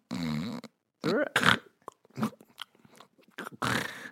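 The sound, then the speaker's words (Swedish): A voice imitates a spider snoring: a low buzzing hum, then a run of short crackly snorts and clicks, ending in a long breathy rasp. No real words are spoken. “Att spindlar har snarkat.”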